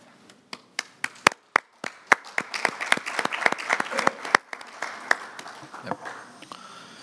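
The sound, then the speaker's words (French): A committee breaks into applause, electing Alec Shelbrook of the United Kingdom as chairperson by acclamation: a few scattered, sharp claps at first, swelling into a dense, steady round of clapping that gradually thins out and fades near the end. “May I invite the committee to elect him by acclamation?”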